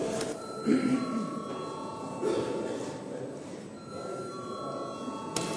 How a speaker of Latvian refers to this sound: Tātad lūdzu zvanu.